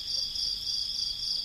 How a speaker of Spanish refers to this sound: Aparte de los grillos, ¿eh? Sí, esos no cuentan. Estaban ahí.